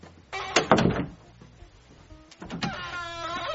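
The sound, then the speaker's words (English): A door creaks with a long, squeaky, tonal groan, beginning with a couple of clunks, then a second drawn-out squeal as it swings again, fairly loud. “This door is so squeaky.”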